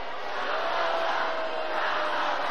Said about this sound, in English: Now the crowd tries to shout down the protesters, and Harris is smiling.